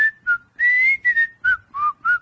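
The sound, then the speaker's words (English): A person whistles a short, choppy tune of about seven quick notes, some sustained and some clipped, with no talking. “And have you ever tried to whistle underwater?”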